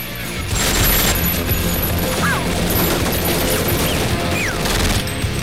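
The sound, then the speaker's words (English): Sustained, dense burst of rapid machine gun fire from an enormous helicopter gun, a loud continuous rattle of overlapping shots with crashing impacts and brief high whistling tones mixed in. “Nick fires the enormous helicopter gun and Donnie reloads.”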